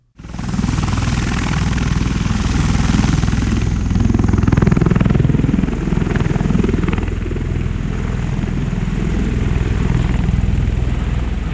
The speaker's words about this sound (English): In addition to the Chilean air assets, we were able to see the U.S. Ospreys in action.